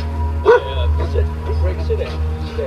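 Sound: german Shepherd dog barking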